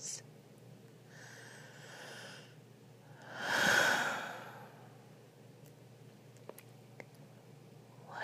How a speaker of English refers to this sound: My breathing. That I do right down your neck.